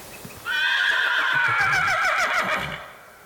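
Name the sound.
horse neighing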